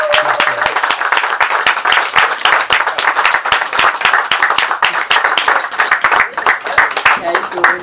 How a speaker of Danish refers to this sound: Det er en klapsalve værd